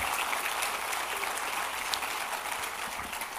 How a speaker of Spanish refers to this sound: Dale fuerte ese aplauso al Rey, por favor.